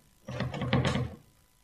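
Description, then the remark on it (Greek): A door handle is jiggled against a door locked from the outside: a brief burst of rapid rattling clicks and soft thumps lasting about a second, with no voices. “Δεν είναι το χερούλι, η πόρτα είναι κλειδωμένη.”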